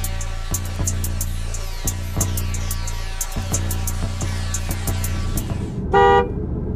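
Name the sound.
car with horn honking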